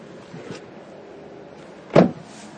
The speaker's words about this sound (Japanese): 今コンビニの駐車場でございます。